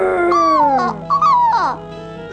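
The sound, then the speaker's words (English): A voice imitates a dragon growl with a drawn-out, playful vocal sound that swoops up and down in pitch, loud, in a couple of wavering bursts without words, as part of a pretend game of taming a dragon. “I am a magic dragon tamer, and I will tame the dragon. Growl!”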